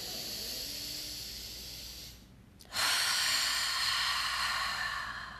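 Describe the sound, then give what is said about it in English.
A long, airy breath drawn in with a soft rushing hiss, a brief pause, then a louder, fuller breath of air; no voices. “Taking a breath in.”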